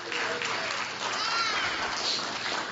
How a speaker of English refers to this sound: Round of applause for my helpers as they put their animals in there. Down the front will be fine, kids. Okay, come back over here, guys. Leave them there, that'll be fine. Well done, congratulations. Come on over. Round of applause for our helpers.